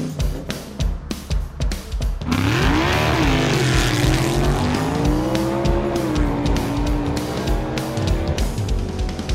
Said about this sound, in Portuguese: Bem, meus amigos, e para darmos a largada nesse nosso especial off-road, eu vou pedir para o Alex Rufo já colocar o carro na estrada e acelerar de verdade, né? Com muita poeira. Acelera aí, meu caro Alex.